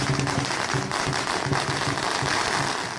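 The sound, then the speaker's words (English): A dense, loud string of firecrackers pops and crackles without pause for the full three seconds, sharp bursts piling over one another with a low rumbling undertone. “It's about this time of the year the firecrackers come out.”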